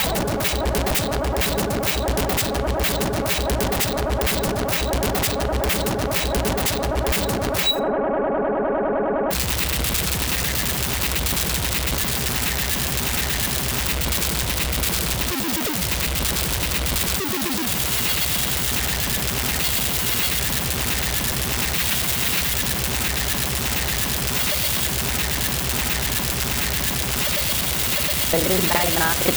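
Harsh, heavily distorted noise music: a dense wall of crackling static and blasts, briefly cutting out for a moment, then roaring back in an unrelenting, abrasive churn at full loudness.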